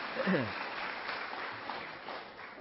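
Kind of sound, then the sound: crowd, audience clapping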